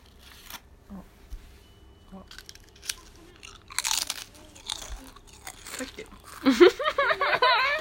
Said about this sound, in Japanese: ああ、咀嚼音的な。 そうそうそう、咀嚼音。 まあいいね、みんなで咀嚼音撮るの。